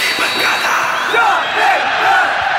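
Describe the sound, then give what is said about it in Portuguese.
A dense crowd roars and cheers at a steady loud level, with scattered shouts and rising yells cutting through the wash of voices, as the opening jingle of the Jovem Pan program Arquibancada Jovem Pan. “Coloca a vinheta. Vinheta. Roda.”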